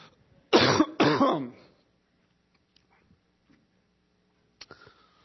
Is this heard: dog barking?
no